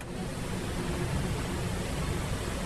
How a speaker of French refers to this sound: Là, nous entendons, c'est la soufflerie de l'orgue. Oui, tout à fait, c'est la soufflerie. L'orgue est un instrument à vent et à clavier. Il a besoin d'air, donc il y a un ventilateur électrique qui pulse de l'air dans des soufflets